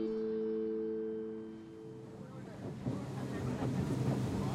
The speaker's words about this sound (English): On the boat, we continue upstream. Large wind turbines come into view on the left. To the right is farmland.